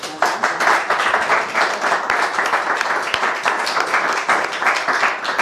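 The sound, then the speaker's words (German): Sustained applause from an audience, dense overlapping claps forming a steady, fairly loud wash of sound for several seconds with no talking over it. “Ja, gibt's Applaus von unserem Publikum hier.”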